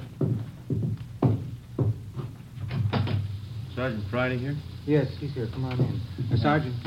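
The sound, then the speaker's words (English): Several sharp knocks or clatters as someone comes to the back door and it is opened, then people begin talking over a low background hum. “Somebody at your back door.”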